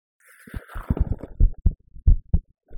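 Muffled, close-up thumping like a heartbeat heard through the chest, irregular low thuds with soft internal gurgles, fairly loud and intimate with no talking.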